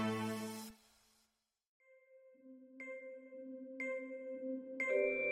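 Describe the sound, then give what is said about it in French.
A bright electronic smartphone app notification chime, prompting users to take a photo of themselves within two minutes, plays a short melodic sequence of clear tonal notes, with several sharp accented hits about a second apart over a sustained tone, loud with no talking. “Tu as 2 minutes pour capturer un biril. Cette notification, près de 5 millions de Français la reçoivent chaque jour à une heure totalement aléatoire.”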